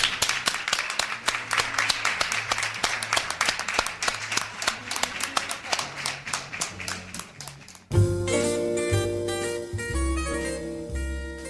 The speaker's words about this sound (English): For example, now we will perform a round of applause for whoever is lonely, so it doesn't feel like that alone anymore.